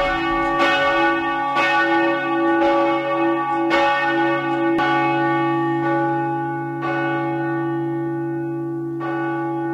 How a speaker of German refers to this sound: War das A, die Glocken der Kirche Maria Rammersdorf, B, die Glocken der Frauenkirche oder C, der Kirche Verklärung Christi?